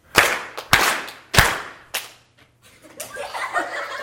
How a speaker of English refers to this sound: Very good. Y'all can give yourself 3 1/4 claps.